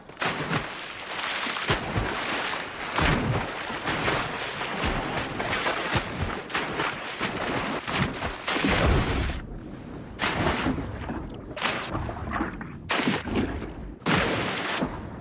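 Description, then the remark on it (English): Heavy, continuous splashing and churning water fills the scene loudly, with several sharper plunges breaking through near the end as more divers enter the water. “More divers enter the water.”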